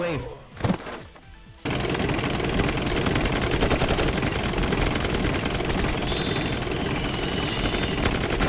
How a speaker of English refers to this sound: The chopper's firing at us. Fire back.